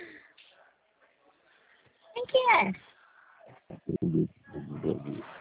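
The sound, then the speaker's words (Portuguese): A baby babbles in the background of a phone call in a few short, sing-song vocal bursts with pauses between them, thin, like it's coming through a phone line. “E esse bebê falando aí?”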